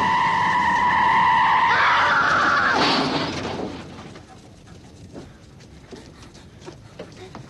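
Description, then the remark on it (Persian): A loud tire screech from a car braking hard, a sustained squeal lasting a few seconds that ends abruptly, followed by quiet ambient noise with faint clicks. “هی باید مواظب ماشینا باشی، اینو میدونی؟”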